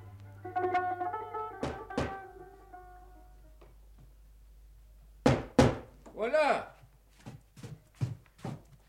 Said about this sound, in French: Frappe à ma porte.